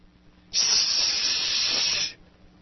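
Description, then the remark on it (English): An audience hisses at a picture of Osama bin Laden flashed on a screen, one steady, breathy burst lasting about a second and a half, loud and bright, starting abruptly and cutting off cleanly, with no talking. “wherein we flash the picture of Osama bin Laden up on the screen, and everybody will come to attention. Put your bags down! And sneer and hiss.”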